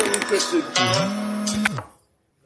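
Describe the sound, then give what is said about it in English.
A mobile phone rings with an incoming call, a short melodic tone that holds a steady pitch for a moment before cutting off abruptly, leaving silence. “Well, I just received a phone call. How do you stop that happening? Well, you put it on silent.”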